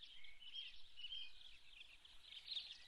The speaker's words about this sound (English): You heard the robins fly in the window there.